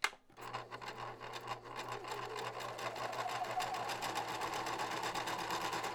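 A sewing machine starts up after a brief pause and runs steadily, a fast mechanical whir with a constant low hum and rapid needle chatter holding at an even level throughout.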